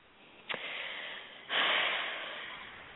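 Heavy breathing right on a microphone: a sharp intake around half a second, then a louder, longer breathy exhale that fades slowly, airy and noisy with no talking.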